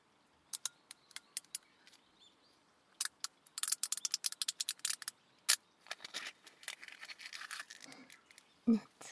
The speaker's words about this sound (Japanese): いい音がするかと思いまして、炭酸のジュース、氷を入れて、氷の音キューキューいうの聞こえますよね。